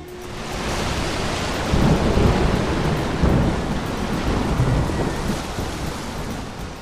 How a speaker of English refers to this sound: Unfortunately, his ship got wrecked in a heavy storm.